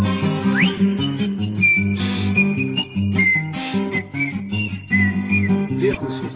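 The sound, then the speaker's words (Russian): A bright whistled melody winds up and down over a steady instrumental accompaniment, with notes gliding and sustaining throughout the few seconds; no one speaks. “Ёлик резиновый насвистывал дырочкой право в боку.”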